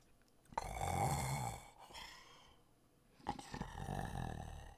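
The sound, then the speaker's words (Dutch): Two long, rasping snores from a man and a woman in a large bed, with a pause between them, fairly loud, the second one breathier and drawn out, with no talking. “En een meneer en een mevrouw. Hij hoorde ze snurken.”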